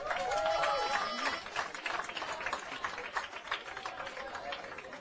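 Dense crowd applause for a band at the large Agro studio fills the whole stretch as a guitarist steps onto the stage: a steady crackle of many hands, with a few whoops and cheers rising over it near the start before the clapping settles and continues.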